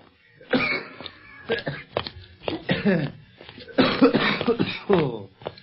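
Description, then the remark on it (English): A man coughs in a long, ragged spell of repeated harsh bursts and strained, throaty hacks, fairly loud, with brief gaps between fits and no talk. “That coughing spell of yours sure got us out of a tight pinch”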